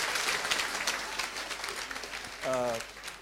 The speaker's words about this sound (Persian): تیم اجرایی مون هم تشویق کنین حسابی.